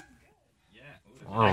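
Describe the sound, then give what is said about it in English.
A person imitates a small dog's bark with a few short, high, voiced yips that grow louder, ending in a sharp, bright bark. “Small dog.”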